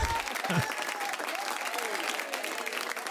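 A round of applause from a crowd, many hands clapping in a dense, steady patter that holds at an even, fairly loud level for a few seconds.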